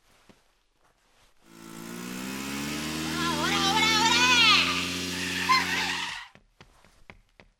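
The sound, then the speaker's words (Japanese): A motorcycle engine roars in loud as the motorcycle crashes into the scene, its pitch revving up and down for several seconds before cutting off abruptly, with a brief shout from a voice near the end. “バイク突っ込んだだけで逃げていくんじゃねえよ。”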